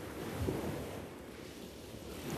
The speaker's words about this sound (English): Probably the ocean or like the waves. It's like calming. It sounds like summer and like being on the beach all day.